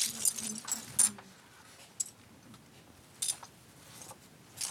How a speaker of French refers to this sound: Je suis en train de faire des petites pochettes pour mettre des petites touches de clavier à l'intérieur. C'est pour un projet qu'on va faire au Musée des Arts et Métiers.